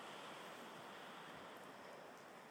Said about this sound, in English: Slight waves rolling in and out on a calm beach.